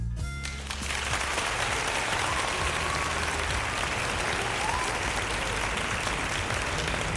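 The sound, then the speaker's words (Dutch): Steady applause from a crowd, a dense wash of clapping that rises quickly after a brief lead-in and holds at a loud, even level throughout. “Applaus, my man.”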